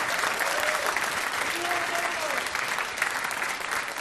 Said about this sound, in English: All right, well, let's just an applause for that.